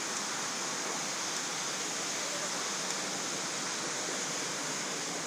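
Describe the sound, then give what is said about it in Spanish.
A steady, even rush of flowing river water beside a forest path fills the whole clip, a broad hiss without pauses or distinct splashes, at moderate loudness. No one speaks. “Ya a la derecha está el borde del río, no puedes.”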